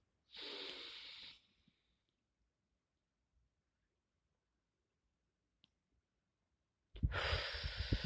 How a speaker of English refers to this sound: fully connect to the air incoming from the nose and to the lungs, to the stomach, and circulating inside of a body, and then let it out. No longer serving from the mouth.